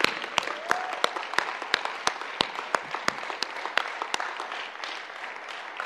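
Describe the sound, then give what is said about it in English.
A church audience applauds steadily for several seconds, a dense wash of hand claps with individual sharper claps popping out, moderately loud and with no one talking. “So let's celebrate with heaven by giving a round of applause for those that made the decision tonight.”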